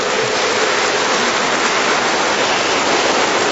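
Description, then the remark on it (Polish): A large crowd applauds warmly to greet Radio Maryja listeners at a meeting of children's rosary circles in St. Anne's parish, Katowice; the clapping blends into a dense, steady roar that holds at an even loudness throughout, with no voices heard. “Czynimy to także gorącymi oklaskami.”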